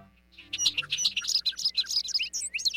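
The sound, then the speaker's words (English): A bobolink's bubbling, tinkling song pours out in a rapid, jumbled run of bright notes, fairly loud, with no voices present, in a large hayfield in western New York State in early May, where bobolinks are returning to nest. “We're standing in a large hayfield in western New York State, where bobolinks are returning to nest.”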